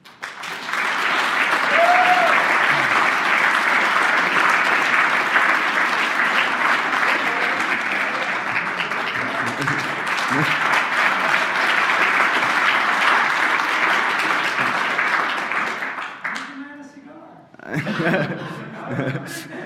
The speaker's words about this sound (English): And so I think we should get someone a special applause,